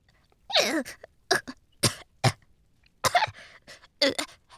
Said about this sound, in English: And then he saw one of the witches climbing out of the water. Her long white hair was damp and hanging over her shoulders. Her arms shook. She coughed up huge mouthfuls of water.